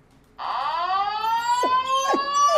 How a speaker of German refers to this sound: Ja, ja, danke, ich versuch's, ja, aber bei einer Sirene will er immer mit. Das ist sein Warninstinkt.